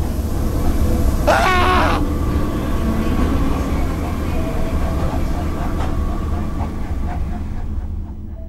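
A train rumbles steadily with a heavy low-end roar, and a brief squealing screech rises over it early on before the rolling noise continues and fades slightly at the end.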